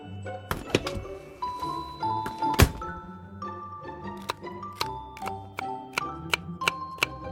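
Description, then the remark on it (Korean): Sharp, irregular knocks of a knife chopping on a cutting board as bacon, cabbage and garlic are cut for cooking, with a heavier thump early on of a fridge door being opened and shut, over a soft background hum. “아내가 냉장고 문을 여닫는 소리, 도마지라는 소리를 들으며 잠깐 눈을 감았다.”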